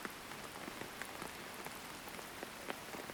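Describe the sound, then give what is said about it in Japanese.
Steady rain falls on a hard surface, heard from under a roof, a dense hiss of countless small drops with scattered sharper taps standing out. It stays fairly quiet and even throughout, with no voices. “うん、雨降ってるから。”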